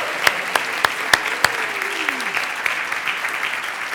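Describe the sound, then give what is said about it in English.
A crowd applauds steadily for several seconds for the teens who led the classroom on a fifth Sunday, a dense wash of clapping with a few sharp, louder claps standing out near the start. “Can we get a round of applause for our teens?”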